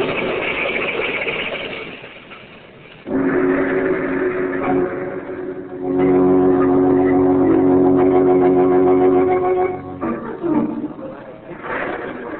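A speeding car's engine roars loudly on a stormy night on the main highway through a small village, just before it crashes with two men inside; its droning hum swells after a quieter start, holds steady for several seconds, then drops away and surges briefly again.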